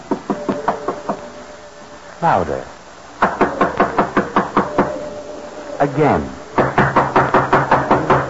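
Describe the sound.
Several rapid bursts of firm knocking on a door, each a string of sharp raps, separated by short spoken phrases.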